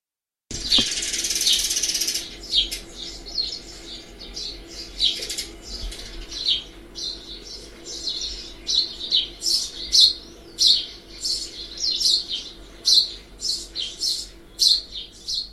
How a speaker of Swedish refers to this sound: Men pilfinken är vanlig vid fågelbordet, och framförallt så kan man känna igen den genom sin bruna fläck på kinden. Ska vi höra på hur den låter? Ja, absolut.